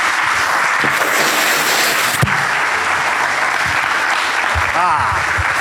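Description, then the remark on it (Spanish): A crowd claps loudly and steadily in applause for the Lord, a dense, sustained wash of applause with scattered voices and cheers rising underneath throughout. “Dale un fuerte aplauso entonces al Señor.”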